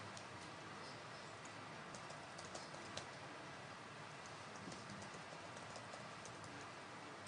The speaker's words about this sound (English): Yes, you will get tired of typing in this password. Visual Studio does not save, even when you say keep me signed in. It forces a new session every single time, but hey, what are you going to do?